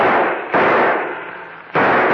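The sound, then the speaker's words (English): Three loud gunshots in a shootout, spaced unevenly, each a sharp crack followed by a long, rumbling decay that fades before the next shot rings out. No voices. “Start blasting as soon as they stick their heads in that door.”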